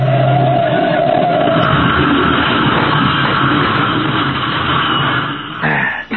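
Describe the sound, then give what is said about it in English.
A car crashes on a curve: a brief engine roar gives way to several seconds of loud, continuous grinding and clattering noise that cuts off abruptly at the end, with no voices. “And now we're going to have the same kind of accident Anderson had.”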